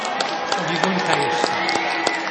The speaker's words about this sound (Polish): Ksiądz biskup Antoni Długosz, Częstochowy, brawa!